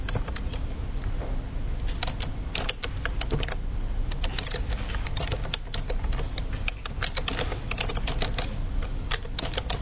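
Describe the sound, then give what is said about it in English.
Rapid, irregular clicking of keys being typed on an upside-down computer keyboard, steady for the whole stretch, with a low background hum and no voices. “keyboard is upside down.”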